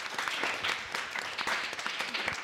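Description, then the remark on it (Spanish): A crowd applauds the participants steadily, many hands clapping in a dense, continuous patter at moderate volume, with no voices standing out. “Qué bueno, pues vamos a escuchar música, pero antes les vamos a aplaudir porque no son vergonzosos, ¿eh?”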